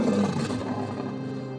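A lion lets out one deep, rumbling roar, loud, holding for a moment before slowly trailing off. No voices or other sounds accompany it.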